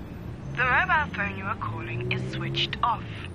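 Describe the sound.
A tinny, phone-filtered automated voice plays a brief recorded message, the kind heard when a call reaches a switched-off phone, over a low steady rumble of background noise.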